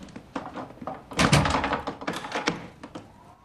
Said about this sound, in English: Holding the candle close to his face, he shuts and bolts the door.